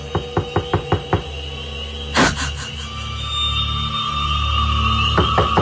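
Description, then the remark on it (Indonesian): A series of sharp knocks on a wooden bedroom door, six quick raps in a row, then a louder thud and a few more knocks at the end, with a quiet hum behind. “Sekarang aku mendengar suara ketukan pintu dari di depan kamarku.”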